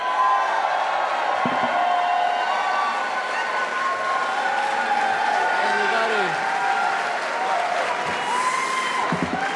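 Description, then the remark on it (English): A large crowd at a Buffalo campaign event claps and cheers steadily for about ten seconds, dense and loud throughout, with scattered shouts and whoops rising above the continuous applause, welcoming campaign co-chair and state assembly member John Rivera. “All right, everybody, I'm going to need you to give a big round of applause for our campaign co-chair and state assembly member, John Rivera.”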